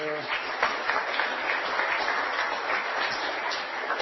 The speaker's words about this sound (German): Dafür gehört schon mal ein Applaus, schon mal im Vorhinein.